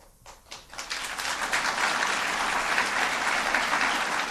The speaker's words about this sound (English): And to his audience at George Washington University, that was the only time in the 45-minute speech that he drew a round of applause.